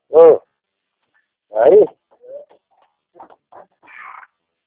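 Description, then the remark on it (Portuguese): A dog whimpers in two loud, short whining cries about a second and a half apart, followed by several fainter, brief whines and a soft high whimper at the end. “Tem cachorro da hora.”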